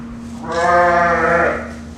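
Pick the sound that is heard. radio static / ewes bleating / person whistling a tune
ewes bleating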